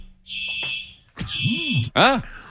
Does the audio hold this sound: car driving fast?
no